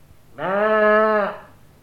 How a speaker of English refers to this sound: That was one of my sheep. Do you keep sheep too?